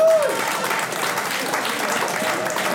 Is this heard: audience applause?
yes